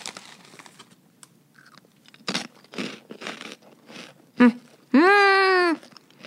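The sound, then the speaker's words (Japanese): Crunchy chewing of small hina-arare rice crackers, a run of irregular crisp crunches at moderate loudness, ending with a brief, sustained hummed vocal sound from the eater. “あ、でもこれ、さっきあの生配信版でいただいたひなあられとはまたちょっと違う味がしますね。”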